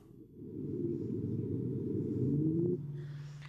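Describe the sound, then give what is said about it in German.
A whale call sped up tenfold: a steady, low, rumbling drone carrying cooing, rising tonal sweeps, loud and continuous for about three seconds before it drops away. No one speaks. “Zehnfach beschleunigt. So klingt ein Wal.”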